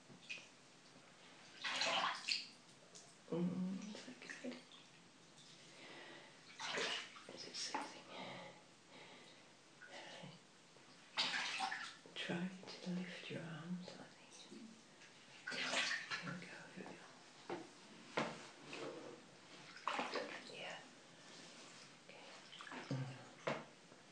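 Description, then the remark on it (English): Warm water pours and splashes in irregular bursts, as if being scooped and tipped over someone during washing, with short pauses between pours. “Yeah, some warm water.”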